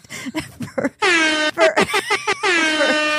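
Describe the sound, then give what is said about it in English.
A convertible BMW's car horn honks loudly with no other sound: a few quick taps, then a long blare, a run of short staccato beeps, and a final sustained blast. “She would come pick me up like, beep, beep.”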